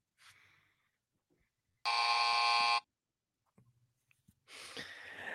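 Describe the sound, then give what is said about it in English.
A single loud, harsh buzzer blares for about a second, steady and rich in overtones, between a faint breathy sound before it and a rough, hissy burst of noise afterward. “Buzz me.”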